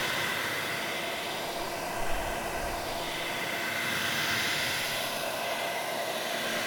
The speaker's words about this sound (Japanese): さて、次はドライヤーね。君耳良さそうだからちょっとうるさいかな。ごめんね、ちょっと我慢してね。いくよ。熱くない？大丈夫？